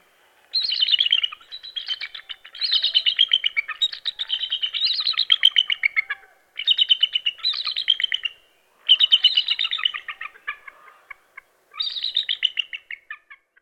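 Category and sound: bird, bald eagle call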